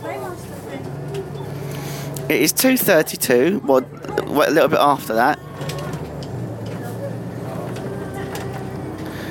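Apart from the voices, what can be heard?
inside a moving bus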